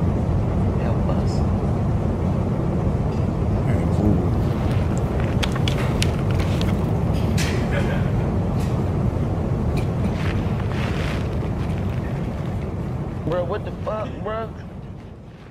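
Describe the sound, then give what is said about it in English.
A loud, steady roar of an airplane passing overhead fills the whole stretch, slowly easing toward the end, with people talking and shouting underneath. “Look at our plane.”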